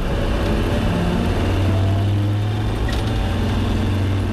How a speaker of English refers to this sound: It's just nice to hear that roar of a Land Rover amongst them.